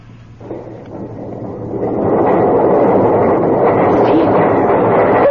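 A low, heavy rumbling grinds into motion and swells louder after a couple of seconds, then holds steady as massive doors roll open.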